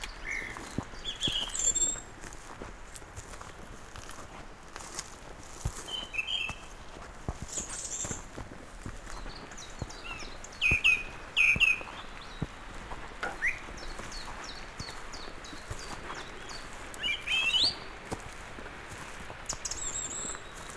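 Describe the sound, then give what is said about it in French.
Scattered bird chirps and short song phrases ring out from several directions over a steady outdoor hush in a fir forest on the mountain slopes of the Sierra de Guara, some calls bright, others faint, with no one speaking. “notamment le plus grand rapace d'Europe, le gypaète barbu, les vautours fauves, mais aussi une multitude d'oiseaux.”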